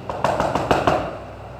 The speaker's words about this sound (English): And old Pete Mills comes over and knocks on the door.